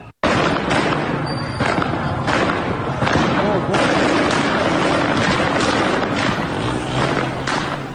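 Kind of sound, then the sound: impact, gunfire at street protest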